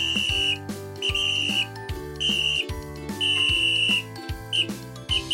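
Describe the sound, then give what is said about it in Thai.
A toy whistle is blown for fun at a children's playground in shrill, short repeated bursts, about five loud, steady toots over a bouncy musical backing, with no talking. “เมื่อทุกคนได้ยินเสียงนกหวีดดังก็รีบวิ่งมาเพื่อจะให้ความช่วยเหลือทันที”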